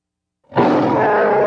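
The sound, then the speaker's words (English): A deep, loud creature roar bursts in after a moment of silence and holds steady and sustained, rough and growling with a strong low rumble. “roared as the two patrol boats came back for another pass.”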